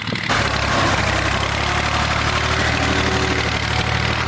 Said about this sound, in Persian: در ولسوالی واشهر ولایت هلمند، افراد مسلح طالبان در نزدیکی یک زمین کشت کوکنار ساده و تماشا می کنند که چگونه تراکتور کشت کوکنار را تخریب می کند.